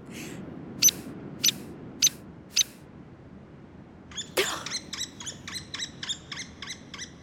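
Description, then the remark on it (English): A hairy woodpecker in a high mountain forest gives four sharp, high peek notes at an even pace, then after a pause a loud burst leads into a rapid, rattling whinny of repeated squeaky notes. “Earth Rangers, that is none other than the headbanger of the natural world, the woodpecker. A hairy woodpecker, to be exact.”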